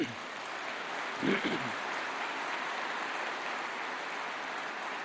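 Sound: applause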